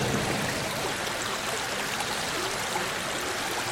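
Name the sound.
flowing stream water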